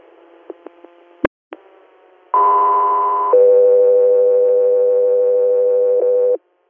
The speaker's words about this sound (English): Delta 3 Air, stand by for tones.